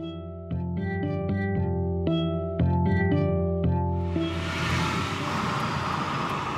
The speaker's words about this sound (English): Do you have AC in here? Yeah, do you want me to turn it on? Yeah, can we do that instead of windows just for the sound? I'm riding around in the car